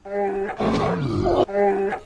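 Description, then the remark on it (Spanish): Mamá Osa, a bear character on a Radio Nacional children's programme, growls in one loud, rough roar lasting about two seconds, with deeper, tonal rumbles at the start and end and a harsh, noisy middle. “¿Cómo andas, Mamá Osa?”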